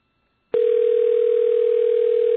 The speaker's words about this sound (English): That's his phone ringing.